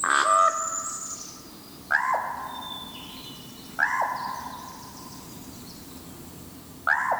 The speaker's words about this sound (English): In Oregon's Mount Hood National Forest, far from Edgar Allan Poe's birthplace in Boston, Jeffrey Keller recorded this common raven's call of Nevermore.